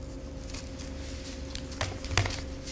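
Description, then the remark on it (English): Thin pages of a Bible that is being bound rustle and flip in a few soft, crinkly swishes as someone turns to Revelation chapter 1, with two sharper turns near the end, over a low steady hum and no talking. “My Bible is being bound and I have trouble turning the pages.”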